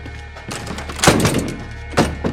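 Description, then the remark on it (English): A locked laboratory door is tried, giving two dull thunks about a second apart as it catches against the lock, with faint shuffling between and no voices. “approach the laboratory door and find it locked.”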